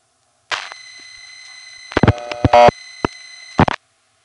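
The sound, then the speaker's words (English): Telephone dial pulsing signal tones as the hundreds (fifth) digit of a phone number is dialed, pulsed as 6-1 instead of 1-1: a steady electronic tone runs for about three seconds, broken by a cluster of sharp clicks and bursts midway and another click burst at the end. “When Ben dials the hundreds digit, that is the fifth digit of the phone number, instead of pulsing 1-1, it does this.”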